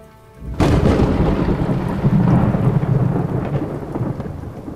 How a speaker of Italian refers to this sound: Non era il medico, purtroppo, ma per mia fortuna, in quella corsa contro il tempo arrivarono, come dei cospiratori bagnati fradici per la pioggia che cadeva a dirotto, il barone Parrilli, il professor Husman e Max Weibel.